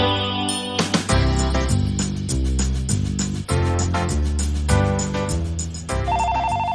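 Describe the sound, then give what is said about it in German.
A telephone rings with a loud, melodic ringtone, a bright chiming tune that repeats its pattern steadily for several seconds with no voices. “Das Telefon klingelt.”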